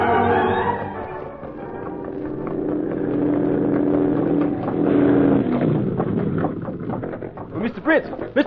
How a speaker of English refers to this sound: Must hurry. Car's coming. Police, maybe.